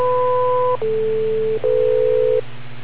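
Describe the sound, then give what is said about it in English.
A radio repeater's beep tone plays as three steady electronic tones in a row, each lasting under a second and shifting in pitch, over a constant low hum with no talking. “Wait for the beep and worry about the 90 seconds there”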